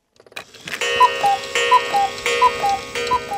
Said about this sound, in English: Old clocks, that tick-tock and chime. Turns out a lot of people flooded by Harvey owned old clocks, and now many of them have ended up at Chapel Jordan Clock Galleries in Houston. There's always something chiming here.